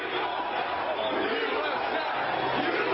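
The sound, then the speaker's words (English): A huge crowd in Washington, D.C. chants "USA" and shouts in a dense, continuous roar of many voices, steady and loud throughout with no pauses. “You hear the chants of USA from the huge crowd.”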